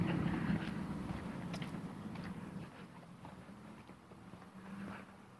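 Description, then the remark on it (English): A pickup truck's engine rumbles, then gradually fades as it drives off down quiet West 20th Street on a Sunday around 11 o'clock, with a low, steady motor drone and faint outdoor wind noise. “All right, here's this guy with his pickup truck. I wonder what the hell he's doing.”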